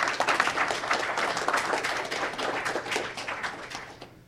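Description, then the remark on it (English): A crowd applauds steadily after a panel of speakers is introduced, many hands clapping in a dense, continuous wash of sharp claps that holds at a moderate level for several seconds before cutting off abruptly. “Okay, you may clap.”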